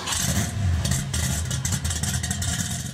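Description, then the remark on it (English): A car engine revs up loud for a few seconds in a car garage, with a deep rumbling growl and some metallic clatter. No voices. “the real question is, why are the two of us, of all people, in a car garage?”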